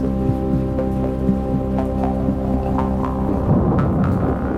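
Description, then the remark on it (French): Thunder rumbles in the distance during a heavy downpour over a town, a low, continuous rumble swelling slightly toward the end, with faint scattered clicks and taps on top and no voices. “Au loin, on entend le bruit inquiétant du tonnerre.”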